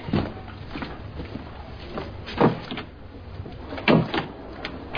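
A locked door is tried but won't open: a couple of sharp knocks and rattles from the handle and frame, with quieter clicks between them and no voices.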